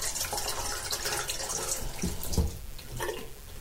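water running

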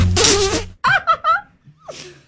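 dog fart sound effect

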